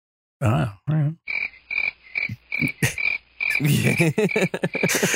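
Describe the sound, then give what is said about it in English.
Crickets chirp in a steady, evenly spaced series of short high pulses, mixed with louder, lower croaking calls that come and go, like a nighttime insect-and-frog ambience. “Why you hit me with the crickets?”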